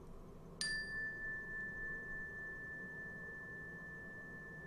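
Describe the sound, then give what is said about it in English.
A single meditation chime is struck once, giving a bright metallic onset followed by a long, steady ringing tone that slowly fades over several seconds against a soft background hum. “And as I ring the chime to bring us back, just listen to the sound of the chime from the moment it starts till the moment it ends.”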